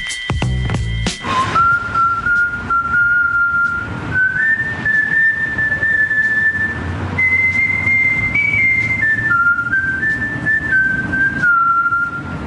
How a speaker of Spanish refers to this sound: Y en ese momento, sabiéndose vencedor, Omar se pone a silbar y le dice esto a uno de los enemigos que aún queda con vida, pero que se está desangrando en el suelo, escondido detrás de un coche.